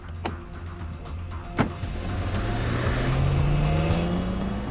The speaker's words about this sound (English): The car sped off, up the Cerulean coast to a villa along the cliffs